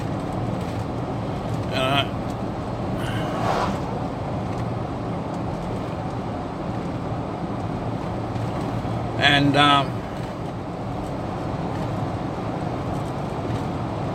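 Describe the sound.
A tractor harrowing dirt, pulling a harrow of two wheels on a wide triangle frame whose spikes break up the topsoil, rumbles with a steady, heavy engine drone throughout, broken by a few short metallic rattling bursts. A voice speaks briefly over it.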